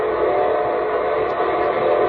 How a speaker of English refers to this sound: Say, that's the signal a locomotive engineer blows when his train is approaching railroad stations, junctions, and railroad crossings.